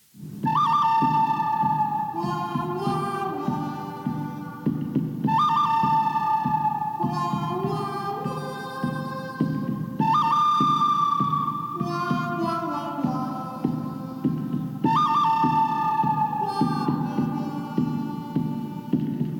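A whistled spaghetti western theme: a high melodic phrase repeats four times at steady intervals over a constant low, droning instrumental backing, with no talking.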